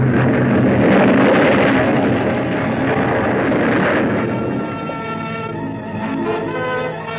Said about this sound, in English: The force of the explosion hurled me into the blood-warm waters.